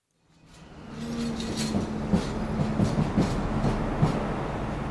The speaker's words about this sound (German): Lokomotiven schieben Güterzüge, Lastwagen fahren.